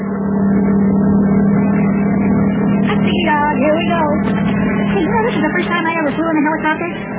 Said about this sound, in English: Hey, you know, this is the first time I ever flew in a helicopter. This seems to be much different than flying in an ordinary airplane. This thing flies a lot faster than I ever thought it would.